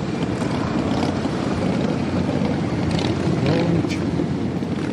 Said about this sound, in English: Thousands of motorcycles are in the nation's capital.